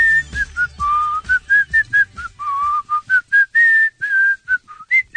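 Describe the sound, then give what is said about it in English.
A person whistles a bouncy, catchy melody, with short rhythmic notes gliding between pitches and brief pauses, alongside faint low background rumble and no talking, on the Kevin and Bean Show on K-Rock radio. “Now, did you come here to whistle or you come here to do the showbiz beat,”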